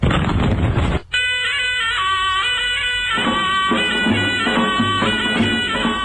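A loud, rumbling cannon blast marking the end of the old year and the start of the new Iranian year (Nowruz) fills the first second, then cuts off abruptly as bright, festive instrumental news music begins and carries on steadily. No one speaks.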